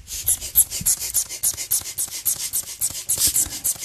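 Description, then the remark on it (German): A black rubber bellows pump with a small hose of about 20 cm, attached to an inflatable gag, squeezed over and over in a quick, steady rhythm of about four pumps a second, each push giving a bright, airy, rubbery squeak-hiss, with no talking. “Also, es quietscht ein bisschen. Es ist ein Blasebalg mit einem kleinen Schlauch, circa 20 cm.”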